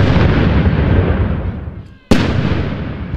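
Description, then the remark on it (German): Loud cannon salute shots, fired for the British Queen's last birthday, boom out, one already rolling and fading, then a second sharp blast that echoes into a long, heavy rumble. No voices are heard. “Ja, und es gibt Salutschüsse, ne?”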